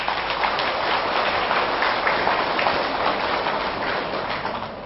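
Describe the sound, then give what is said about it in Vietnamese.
A crowd applauds steadily to pledge commitment, a dense, even wash of many hands clapping at once that holds for several seconds and begins to taper off near the end. No one speaks. “nếu quý vị thấy rằng là cái việc nhạy cảm bản thân không tốt, mặc cảm tự ti là không tốt, ganh ghét là trở ngại, đố kỵ là nên tránh, mặc cảm tiêu cực là cần vượt qua để khép lại cái bệnh tự ái chấp ngã, thì hãy dâng cho một tràng pháo tay để cam kết.”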